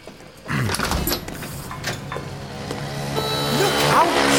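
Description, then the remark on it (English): A sudden burst of noise gives way to a steady, rushing motor hum with buzzing harmonics as a scooter speeds by and hits a man, a thudding knock at its start and a brief rising whine near the end. “Did you see that scooter driver? Really hit him?”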